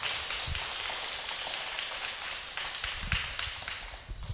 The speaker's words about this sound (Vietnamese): Xin quý vị dâng một tràng pháo tay một lần nữa.